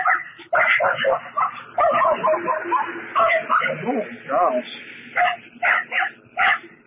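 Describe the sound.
A dog barks and yips repeatedly in quick, high-pitched, loud bursts, with a few short spoken words mixed in among the barks.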